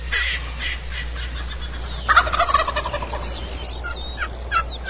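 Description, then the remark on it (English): Raspy, high-pitched yelps from a turkey box call, used while turkey hunting on the Big Island of Hawaii, come in short rhythmic series, with a louder, faster run of notes partway through over a steady low hum. No one speaks. “Little box call action.”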